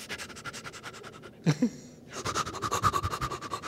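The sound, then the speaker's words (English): A person imitates quick, shallow panting breaths in a fast, steady rhythm, fairly loud, in two bursts separated by a brief pause. “It's like, why are you taking 150,000 little breaths?”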